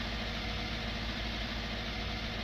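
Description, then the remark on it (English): A small lawn mower engine runs steadily while mowing around a home property, a constant droning rumble with a rough, buzzing texture that stays loud and even throughout, with no one speaking. “Yep, there we go. Mower actually works.”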